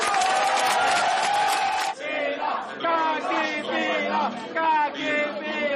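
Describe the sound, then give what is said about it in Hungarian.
A large crowd at a Jobbik party rally in Hungary cheers loudly at first, then shifts into a dense roar of overlapping shouting and chanting voices that stays sustained throughout. “A legnagyobb tapsot a kémügybe keveredett Kovács Béla kapta.”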